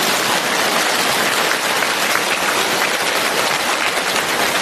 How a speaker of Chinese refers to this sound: 鼓掌